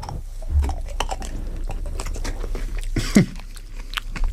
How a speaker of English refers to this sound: And we're gonna get this one in our mouth. We're gonna take a couple chews.